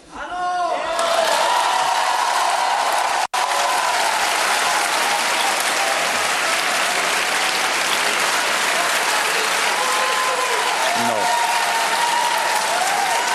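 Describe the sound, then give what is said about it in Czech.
Loud, sustained, enthusiastic applause from a crowd of a president's supporters, dense clapping that holds steady for the whole stretch with a brief dropout, with faint cheers and voices mixed in. “Tak až utichne nadšený potlesk vašich příznivců, tak vám řeknu”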